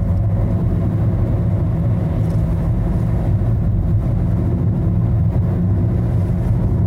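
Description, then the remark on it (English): Steady low rumble of a car in motion heard from inside the cabin, from the show Silent in Cars, where comedian Bill Burr just drives around in silence; a constant droning road and engine noise that stays even and loud throughout, with no talking. “So we just get in the car and just drive around.”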